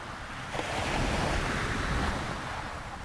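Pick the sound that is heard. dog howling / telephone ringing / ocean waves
ocean waves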